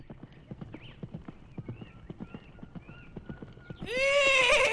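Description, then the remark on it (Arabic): In the morning at a farm, a horse's hooves clip-clop in a steady, even rhythm, clear, then a loud, shrill neigh bursts out and trails off at the end as the horse calls out. “وعند الصباح سمع الدب الحصان وهو ينادي عليه؟”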